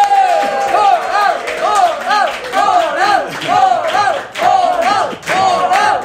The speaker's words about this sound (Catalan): Suposo doncs que ja sabeu de qui estem parlant. Rebem amb un fort aplaudiment a Xavi Coral.